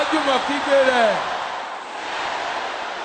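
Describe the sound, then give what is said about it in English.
A crowd of voices shouts together in prayer, 'Tear down their marketplaces' ('Fa oja won lule'), a few pitched cries rising above the mass in the first second before settling into a steady, loud roar that carries to the end. “Let me hear everybody shouting it.”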